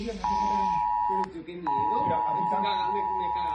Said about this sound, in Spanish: La alerta llegaba a los teléfonos de los valencianos exactamente a las 8:11.